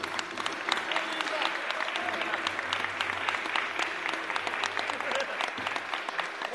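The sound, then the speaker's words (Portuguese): A room full of people claps steadily for several seconds to applaud the teachers, a dense wash of overlapping handclaps, with some voices faintly mixed in underneath. “E eu queria uma salva de palmas aos professores.”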